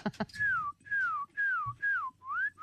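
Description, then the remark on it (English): A person whistles a bird call: five repeated clear tonal notes, each gliding downward in pitch, evenly spaced, with a brief click or breath before the first note. “My friend's going to do 25 different species of birds.”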